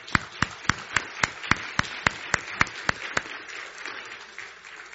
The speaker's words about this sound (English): We have some police officers that attend our church here, and we so appreciate what they do. Could we give them a round of applause?